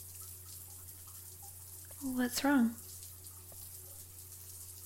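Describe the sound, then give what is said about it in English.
A hot shower runs steadily with a constant, even hiss of falling water from start to finish. Partway through, a person briefly speaks over it. “The hot water feels nice.”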